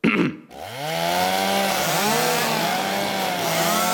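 A chainsaw sputters to life after a brief burst, then roars loudly, its engine pitch rising and dipping as it revs continuously for several seconds.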